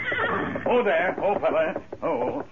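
animal, horse neighing

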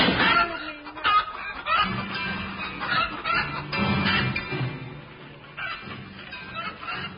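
bird, chicken clucking

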